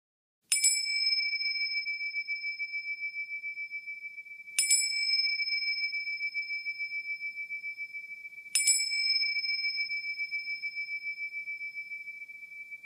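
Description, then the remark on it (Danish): A meditation bell is struck three times to begin a meditation exercise, about four seconds apart, each clear ring sustaining with a long, gently wavering shimmer that overlaps the next strike, with no voices. “Når klokkerne lyder, begynder øvelsen, og den afsluttes med klokkelyd.”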